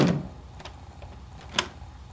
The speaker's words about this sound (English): With a slight flick of his fingers, he orders the door shut.